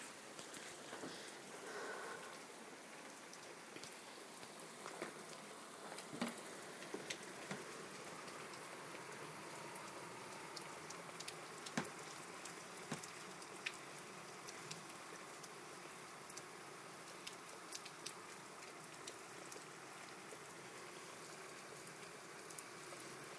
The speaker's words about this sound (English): We've needed this, we've not had a good rainfall for weeks. Drizzle, but not like a pour down like that.